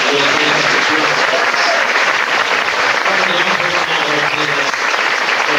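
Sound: audience round of applause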